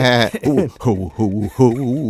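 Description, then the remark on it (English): A person imitates the vengeful sheep of a southern stage farce about a church Christmas program, with several loud, wavering bleats in a quavering voice, each drawn-out 'baa' rising and falling in pitch. “You got the vengeful sheep and...”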